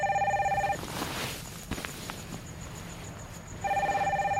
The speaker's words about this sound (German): Als plötzlich das Telefon klingelt.